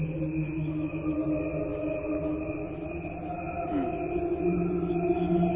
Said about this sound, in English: Okay, we can go ahead and fade out the crickets there.